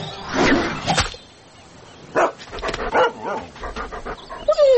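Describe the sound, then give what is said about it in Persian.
A dog chasing a spot of light thrown onto the ground, trying to catch it, pants rapidly and lets out a few short barks and whimpers, fairly loud, with bursts of excited breathing between the sounds. “یک سگ به تعقیب نور افتاد و کوشش میکرد بگیرش.”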